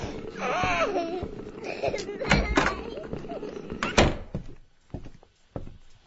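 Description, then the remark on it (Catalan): A few sharp knocks on a door, irregularly spaced, with voices and a small child's whimpering cries going on around them. “A les telesèries americanes truquen a la porta, oi?”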